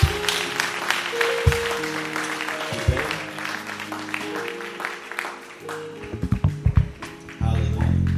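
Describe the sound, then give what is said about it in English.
Sustained audience applause at a church service, many hands giving the Lord a big hand clap of praise in a dense steady wash, with organ-like sustained tones playing underneath and a few sharper bursts toward the end. “Can we give the Lord a big hand clap of praise?”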